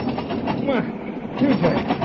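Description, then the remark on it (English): A train car rolls around a curve, slowing, with a steady rumbling roar while its brakes drag and grind, giving off wavering squeals that rise and fall over the continuous noise. “Hear the brakes? How they're dragging?”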